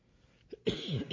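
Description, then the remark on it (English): A brief soft catch in the throat, then a loud, harsh cough with a rough, drawn-out burst; no one speaks. “I couldn't agree with you more. The coughing, that is.”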